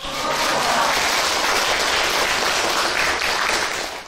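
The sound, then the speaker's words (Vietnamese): An audience listening to a Buddhist dharma talk applauds steadily for about four seconds, a dense, even wash of clapping from many hands that stays loud throughout and tapers slightly at the end, with no talking over it. “Xin cho anh tràng pháo tay nữa.”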